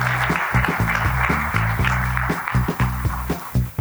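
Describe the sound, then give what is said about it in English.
Steady, dense audience applause at a morning session, for everyone who shared their stories, fills the whole clip at a loud, even level, with a low rhythmic musical pulse thumping underneath. No one speaks. “A round of applause for everyone who shared their stories.”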